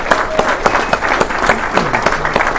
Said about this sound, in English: I do want to say thanks to the Color Guard, and if you'll just join me in a round of applause, that was awesome.